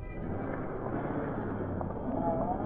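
The engine of Roger's departing car rumbles low and steady for a few seconds, a broad, droning hum with faint higher hiss, holding at an even, moderate loudness throughout.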